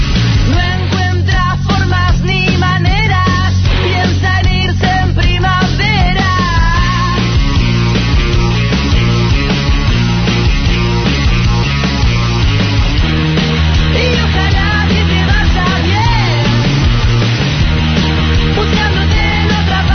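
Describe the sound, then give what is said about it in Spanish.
A loud, dense rock track plays throughout, with a man's raw, shouted vocals straining over the heavy band, strongest in the first half before the instruments carry on. “Porque ellos no escuchan la música. Claro. Ellos escuchan un chabón gritando.”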